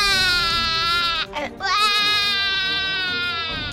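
baby crying

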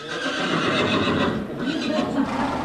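horse neighing

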